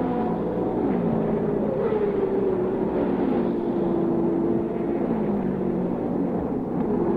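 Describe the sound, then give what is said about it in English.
Race car engines roar steadily and loudly, their high whining pitch rising and falling as cars sweep past one after another, with no voices over the din. An auto race seven laps in, Mike Mosley leading in car number 98, Andretti and Johnny Rutherford battling for second and third. “Look at this battle. This is lovely racing.”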